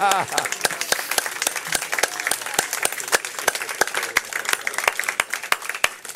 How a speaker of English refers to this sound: Now go ahead and release the claps.